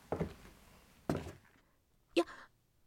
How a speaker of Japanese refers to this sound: あれ？足音？誰か来た？